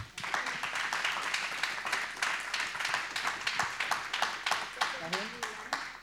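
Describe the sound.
An audience at a film screening applauds the film's editor steadily for about six seconds, a dense, even wash of many hands clapping, with a faint voice briefly audible beneath it near the end.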